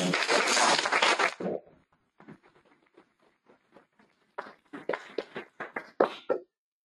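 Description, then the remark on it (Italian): A dense burst of applause at a council meeting that quickly thins into scattered, uneven claps, a few sharper ones near the end before it stops, with no talking. “Un applausino.”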